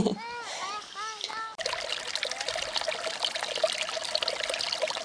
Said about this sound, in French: Tout au long de notre chemin, l'eau est omniprésente. Cascades souriantes du jeune Tarn, glouglou des béales, vous savez ces petits canaux à flanc de montagne construits par les anciens et même quelques gouttes de pluie.